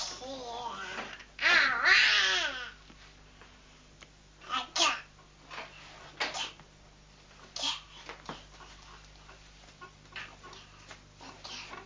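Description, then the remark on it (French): A woman imitating a baby makes high, squealing baby-like babbling noises in bursts, with a loud shrill outburst near the start followed by shorter scattered vocal sounds and pauses. “On dirait que tu es redevenu un bébé, …. C'est ça que tu veux. Voilà qu'elle fait le bébé maintenant.”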